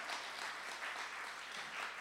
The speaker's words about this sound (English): I'm just saying the next clap better be better.